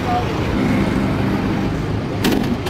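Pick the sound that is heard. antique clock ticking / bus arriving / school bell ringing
bus arriving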